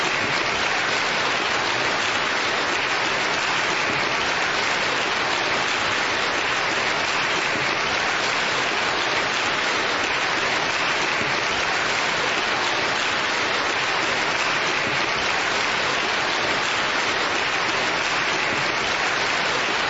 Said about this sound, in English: So would you please stand, and we, through our applause, would like to give thanks to God for you.